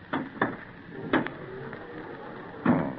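Glass doors slide shut with a few short rumbling scrapes and clunks, ending in a firmer thud as they close. The sound is moderately loud, and no one speaks.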